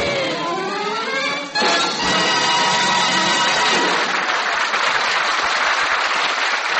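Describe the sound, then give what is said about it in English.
A band's final held chord cuts off and an audience bursts into loud, sustained applause, dense clapping and cheering that fills the rest of the moment without letting up. “The ladies and I appreciate that kind of applause”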